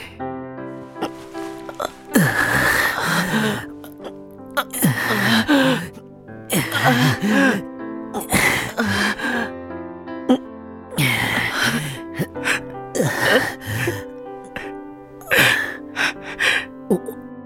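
Heavy, close-up sobbing broken by sharp gasping breaths, coming in repeated ragged bursts with short pauses between them over roughly fifteen seconds.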